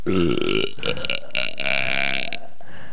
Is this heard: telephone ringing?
no